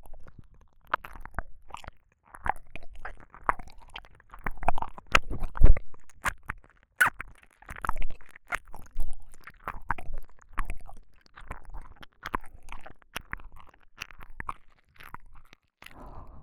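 Wet chewing sounds with crunchy and squishy bites repeating at an uneven pace for the whole stretch, with no talking.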